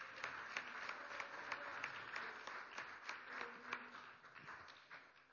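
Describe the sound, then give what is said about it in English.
A crowd applauds steadily as a morning clap offering, dense overlapping hand claps sustained for several seconds at fairly even loudness, easing slightly toward the end. “Let's just give him a clap offering this morning.”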